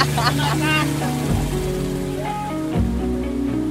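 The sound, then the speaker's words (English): A motorboat engine drones loudly, its pitch shifting upward twice as the boat revs and takes off on a river, with faint voices briefly audible near the start. “washing her feet in the river as we are taking off in the boat.”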